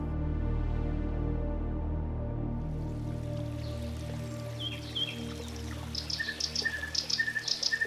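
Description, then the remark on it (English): Bright bird chirps and short tweets rise over a steady trickling meandering creek, growing busier toward the end after a low rumbling opening that fades away. No one speaks. “The land along the meandering creek teemed with life. Squirrels, raccoons, red foxes, deer, toads, frogs, snakes, an assortment of insects, birds, rabbits, voles, and mice scampered, perched, nestled, burrowed, and browsed this area.”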